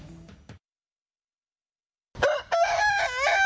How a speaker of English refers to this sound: Cock-a-doodle-doo. That's Rooster Charles reminding you to listen to Farm and Country Saturday morning at 10.